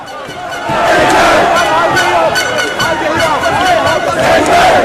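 A large crowd of England football fans in London roars and chants, celebrating England reaching the Euro 2020 final: a dense, loud wall of overlapping shouting voices with rhythmic bursts of cheering throughout.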